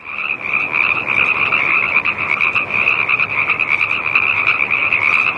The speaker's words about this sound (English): the only species of frog that makes the ribbit noise is the Pacific tree frog